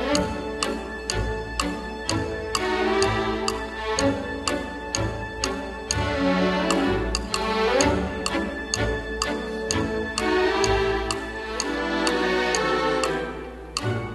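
A lively orchestral piece with strings and winds playing a bouncy melody over a steady, crisp woodblock ticking like a clock, the regular tick-tock rhythm running throughout at a bright, full volume.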